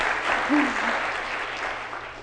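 A crowd claps steadily in a dense, even wash of applause that holds at a moderate level throughout, with a brief vocal cheer rising near the start.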